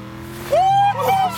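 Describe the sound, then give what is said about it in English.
A car engine revs up as it is put in gear, its pitch climbing then holding steady over a low rumble, loud for a brief moment. “I got it in gear now.”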